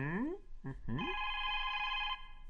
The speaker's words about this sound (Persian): زنگ تلفن، اجازه بده جواب بدم.